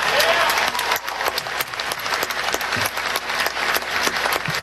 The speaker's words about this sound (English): Ted Cruz is clapping.